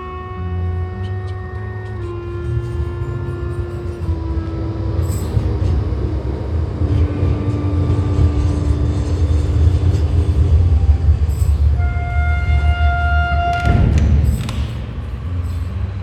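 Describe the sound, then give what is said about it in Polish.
A tram rumbles steadily past along Długa Street in Kraków, Poland, with deep low-frequency noise, its wheels squealing in drawn-out tonal whines along the rails, loud throughout, with no voices. “Dziś po ulicy Długiej w Krakowie jeżdżą już inne tramwaje.”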